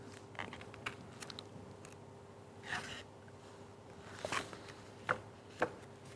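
Pages of a book are leafed through in search of a passage to quote: several soft, papery swishes and light flicks spaced irregularly over a few seconds, quiet, with no one speaking.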